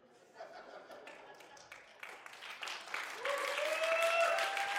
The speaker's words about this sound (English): Everybody in the front's clapping, everybody in the back wasn't.